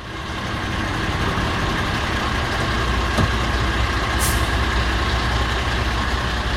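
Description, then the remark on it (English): A 17-tonne automatic fire engine's diesel engine rumbles steadily as it pulls away, with a short, sharp hiss of air brakes releasing partway through. No one speaks. “The oils are coming up to temperature, because being a fire appliance, it has to be really quick, so everything gets ready before we move. Right, okay. So we're off.”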